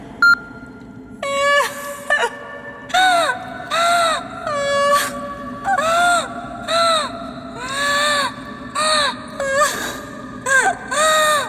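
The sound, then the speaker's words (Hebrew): A young woman, a grown seminary girl, cries and wails loudly without stopping, her voice breaking into a long series of rising and falling sobbing moans, roughly ten bursts with short catches of breath between them. “דמיינו נערת סמינר גדולה ובוגרת, בוכה ובוכה בלי הפסקה.”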